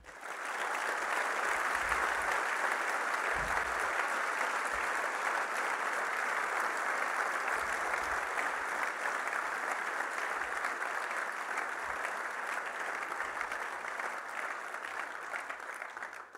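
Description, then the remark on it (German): Sustained audience applause, a dense steady wash of many hands clapping at an even loudness for about sixteen seconds, with no talking over it. “Da dürft ihr klatschen.”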